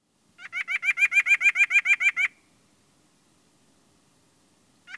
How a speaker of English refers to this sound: Small flocks of house sparrows show up at the feeding station and seem to stay forever, filling the air with their chirping.